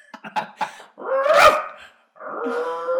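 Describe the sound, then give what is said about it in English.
A person imitates a little Lassie dog, starting with a few quick yipping barks, then a loud, drawn-out bark and another long, whiny yowl. “Yeah, we'll be little lassie dogs.”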